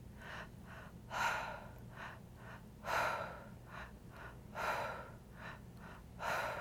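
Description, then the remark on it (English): Steady mouth breathing during an active breathing exercise, in a repeating pattern: two short, sharp inhales through the mouth followed by one longer exhale through the mouth, cycling several times. Fairly quiet, with a low hum underneath and no talking. “So two breaths in, one breath out, all through the mouth.”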